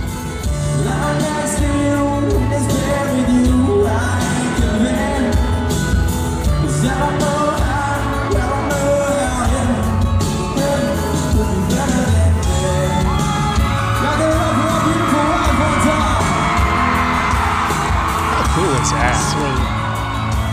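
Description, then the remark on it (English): A concert crowd in Bossier City cheers and screams continuously at high volume as the singer on stage invites his wife out, with whoops and yells rising over dense, roaring noise and scattered loud shouts throughout. “The crowd's going nuts, right?”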